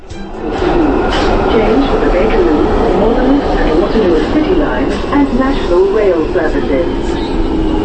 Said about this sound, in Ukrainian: Звуки метро схожі, але не однакові у різних містах. Чимало лондонців скажеться, що їхнє метро надто шумне і тісне. Особливо на найстаріших лініях мережі вік дається в знаки.